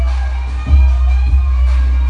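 Loud, booming club music blares with a heavy, constant bass and periodic thumping beats, sustained tones above, and a faint crowd murmur mixed in, played at full volume out on Pub Street in Cambodia rather than inside the bars.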